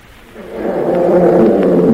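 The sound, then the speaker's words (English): A lion and an elephant fighting fiercely, with deep, rumbling roars that swell from quiet to loud and hold steady, continuous with no talking. “They were fighting fiercely.”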